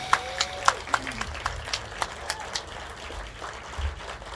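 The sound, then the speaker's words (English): An audience in Northeast Los Angeles applauds the area's senior lead officers, many hands clapping in a dense, irregular patter that holds steady for several seconds at a moderate level, with a faint brief tonal sound near the start. “They deserve a big round of applause as well.”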